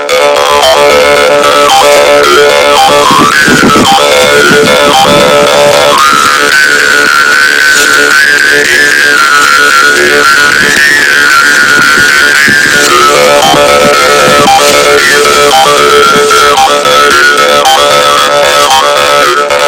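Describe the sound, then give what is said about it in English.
A karinding, the Sundanese bamboo jaw harp, plays a loud, continuous buzzing twang, its overtones sliding up and down in a wavering, rhythmic pattern throughout. “After a long time, finally Karening is played as instrument to entertain farmers who are waiting their land.”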